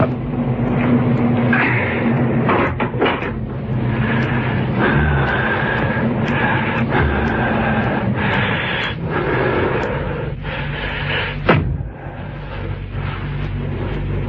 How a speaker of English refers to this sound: He was halfway down when he heard the car approach.